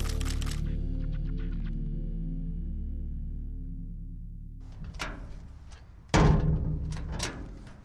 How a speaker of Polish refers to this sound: Trzasnęły ciężkie metalowe drzwi, wchodzę do bunkra. Bunkra, który myślę doskonale słuchacze Migawki znają. No tutaj byliśmy, fotografowaliśmy Hydrię Werke Polic, czyli byłą fabrykę paliw syntetycznych w Policach.